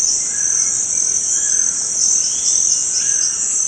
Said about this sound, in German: Ihr kleines Dorf liegt am Rio Negro, rund eine Stunde von der Amazonas-Metropole Manaus entfernt. Hinter den kleinen Hütten des Dorfes erstreckt sich dichter Urwald. Bunte Papageien kreischen in der Luft, Amazonien pur.